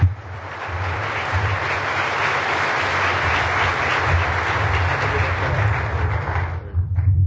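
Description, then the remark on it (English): A crowd claps steadily as Mr. Clark, a former Assistant Secretary of State for Intelligence, is invited up to speak, a dense, sustained wash of applause that holds at an even level for several seconds before tapering off near the end. No one speaks over it. “How about a warm applause?”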